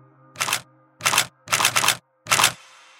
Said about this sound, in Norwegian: Han løfter kamera og knipser.